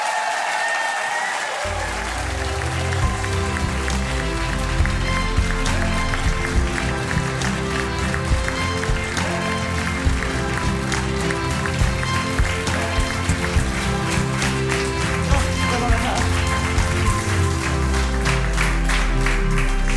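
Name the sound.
audience cheering and applause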